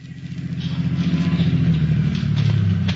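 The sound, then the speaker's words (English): Police Lieutenant Leo Kelly's car engine rumbles as the vehicle rolls to a halt at the lot of Happy Harry, a used car dealer, a steady low droning hum with a slight shift in pitch partway through, and no voices. “Following one line of their investigation, Lieutenant Leo Kelly hurried to the lot of a used car dealer, Happy Harry, in response to a call from Sergeant Joseph Maurer, who was waiting as the lieutenant's car pulled to a stop.”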